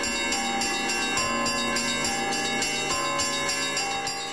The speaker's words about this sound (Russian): В то время было доброй традицией приветствовать обитель салютом из корабельных пушек, когда суда Черноморской эскадры проходили мимо этого святого места, а монахи провожали корабли колокольным звоном.